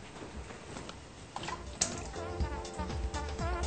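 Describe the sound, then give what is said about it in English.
Pre-cut potato chunks tumble into a pot of cold water, with a sharp splash partway through followed by softer plops, sloshing and dripping, fairly quiet, with no talking. “So I'm going to add these to a pot of cold water where I have some pre-cut potatoes that I already did.”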